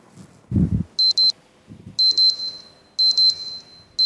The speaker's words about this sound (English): The alarm on Daniel's phone went off like it did every morning. Way too early to suit him. Was it 6:30 already?